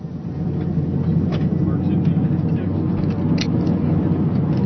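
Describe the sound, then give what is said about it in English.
The turboprop engine of a King Air 200, a roughly 10-passenger state plane, drones steadily and loudly, a deep, even roar with a low humming tone that never changes, while muffled voices faintly surface underneath. “This is a King Air 200. It's technically about a 10-passenger airplane, turboprop.”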